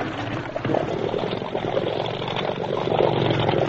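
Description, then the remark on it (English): A motorboat engine runs steadily at full throttle, a loud, dense mechanical drone that holds constant without pause, with no voices. “Full throttle now.”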